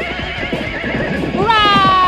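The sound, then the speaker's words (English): Rapid hooves clip-clop in a steady rhythm as a horse runs down a desert trail at full speed, then the horse lets out a loud, high whinny that rises and wavers near the end, prominent. “We went so fast past the horse, the girl went flying off into a dune, and the horse fell in that big twisty way they fall.”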